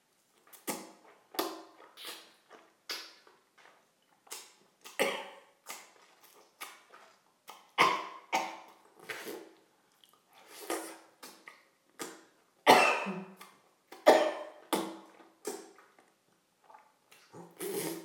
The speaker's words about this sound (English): Don't mind if you hear me cough and gag. My gagging is just a reflex.